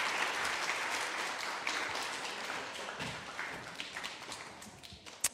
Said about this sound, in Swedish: Så, värt en applåd.